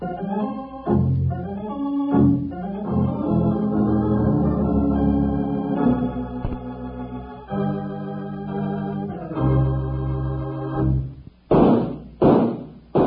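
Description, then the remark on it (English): Brassy, full-bodied music plays steadily, then cuts off and three sharp, loud gunshots ring out in quick succession as a reminder leading into a Kellogg's cutout masks advertisement, each a booming crack with a short tail. “Wranglers, those three gunshots are just to remind you that Kellogg's new cutout masks are in 3D.”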